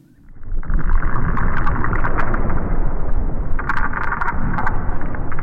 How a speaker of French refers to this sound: Écoutez, c'est le souffle de l'Arctique tel qu'on le fantasmait il y a 100 ans. Un désert blanc, un silence de mort rompu par les bruits de pas et les bois de traîneaux.